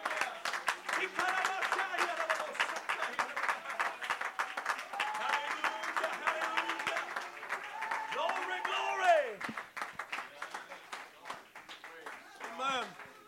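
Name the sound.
audience clapping hands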